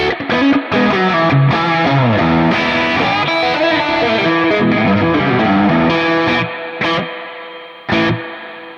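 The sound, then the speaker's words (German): An electric guitar played through a Lush Spring reverb pedal, strummed chords and runs with a thick, slightly distorted tone, loud, with splashy reverb tails ringing out in the pauses near the end. “Ich habe hier jetzt so einen Lush Spring.”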